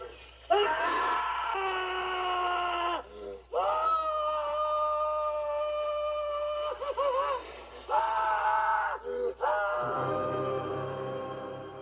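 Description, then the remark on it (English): A man in a film scene lets out a long, piercing, high-pitched scream in several sustained bursts separated by brief gasps, loud, with no talking. “I love his face here and the scream, that really high-pitched scream that he lets out.”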